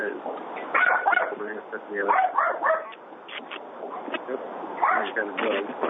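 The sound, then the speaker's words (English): A participant's dog barks and yips repeatedly in uneven bursts over a thin, muffled call-quality line during a committee meeting, with indistinct background voices mixed underneath. “Yeah, I said somebody has a dog.”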